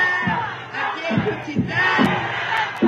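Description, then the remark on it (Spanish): A small group of voices, about three opposition protesters at the president's event in Juchitán, Oaxaca, chants "fuera Claudia" in unison, rising and falling in a steady rhythmic cadence of repeated shouted phrases, loud and continuous with no single speaker standing out. “De hecho, gritan fuera Claudia.”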